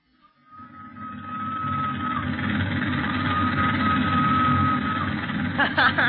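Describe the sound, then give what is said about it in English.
A thin, steady whistle of the train from Matadi to Leopoldville holds one high, reedy pitch for several seconds over a loud, continuous rumble of locomotive engine noise, with a few brief squeaky chirps near the end. “If that doesn't sound like a peanut whistle, nothing ever did.”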